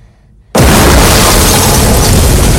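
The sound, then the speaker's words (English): After a brief near-silence, a sudden loud explosion bursts out in a sickbay and keeps roaring with dense, crackling noise as showers of sparks rain down, through to the end. “An explosion behind Peters causes showers of sparks to rain down on her.”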